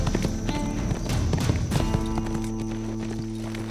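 Horse hooves clip-clop in a steady rhythm as Smoke Jensen rides away at an easy pace, with a faint whinny and a low sustained musical drone beneath.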